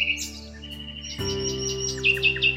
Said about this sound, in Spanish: Era el ruiseñor.